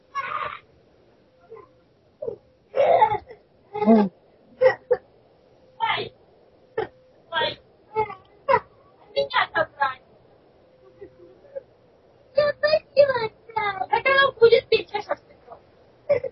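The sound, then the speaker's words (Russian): A small child whimpers and fusses in short, uneven bursts, heard through a participant's open microphone, with brief pauses between the whiny vocal sounds. “выключите микрофон, ребенок слышит, если не разговариваете.”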